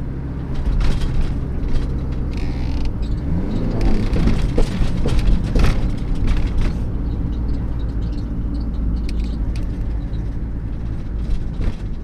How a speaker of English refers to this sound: We also took a trip on one of our buses from Enable Ireland, and we heard from our driver